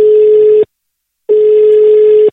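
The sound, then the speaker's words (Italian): A telephone ringing tone on the line of a phone call made on Radio Toscana: two long, steady electronic beeps separated by a short silence, loud, with no one speaking. “e da lì parte la telefonata a bischero di Bischero di Masti e sono io sulla vostra Radio Toscana, solo Toscana, solo it, vai telefono, vai ciccio.”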